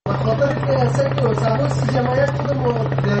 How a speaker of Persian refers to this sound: این صدای قلیان یا چلم است که بخشی از جوانان در این کشور از آن استفاده می کنند.